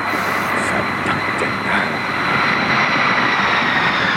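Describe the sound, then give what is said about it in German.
A loud, steady roar of an airplane engine fills the whole stretch, with a thin high whine running above the dense rumble and no voices. “Original Flugzeuggeräusch.”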